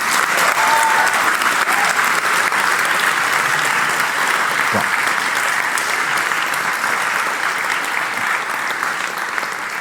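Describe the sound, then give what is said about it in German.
A big round of applause: dense, steady clapping from a large crowd, loud and sustained for the whole stretch without letting up. “Bitte einen ganz, ganz großen Applaus.”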